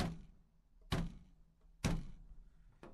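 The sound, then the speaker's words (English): A few dull, heavy thuds of a person banging their head against a wooden table land about a second apart, each a solid knock with a short ringing decay, fairly loud. “Oh, sorry, that was me banging my head against the table here.”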